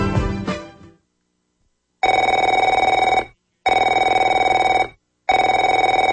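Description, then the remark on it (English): A telephone rings three times in loud, steady bursts with short pauses between them, following a brief clatter that fades into a moment of silence. No one speaks. “Afraid to answer it?”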